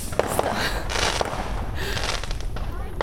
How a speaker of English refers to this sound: there are still fireworks going on. Yep.